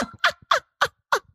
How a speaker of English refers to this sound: Thank you for clearing your throat